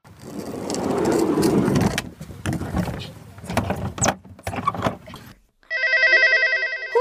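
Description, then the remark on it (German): A telephone in the dispatch centre of the Christoph 22 rescue helicopter starts ringing near the end with an incoming call, a loud, bright electronic trill, after a stretch of rumbling engine noise, clunks and scattered clicks. “Und schon kommt wieder ein Anruf in der Leitstelle an.”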